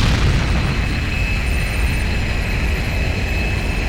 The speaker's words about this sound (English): The pilot throttled forward and the plane took off through the electroshield.